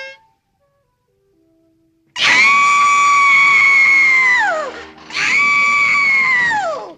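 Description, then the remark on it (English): In a cartoon, an old lady standing stock still sounds a faint, brief kazoo-like tuning note, then screams on that note in a shrill, sustained woman's scream that wavers and falls off, followed by a second long scream, both loud. “And then as the father and the child they go back home, we just have the old lady standing stock still, putting out a little kazoo and tuning a note, and then screaming in that note.”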